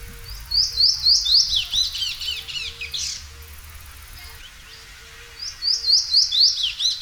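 A seed-eating songbird of a common resident species that feeds on grass seeds and ranges from Mexico to Central Panama calls in two bursts of quick, repeated high chirps, loud, separated by a few quieter seconds, with a low steady hum underneath.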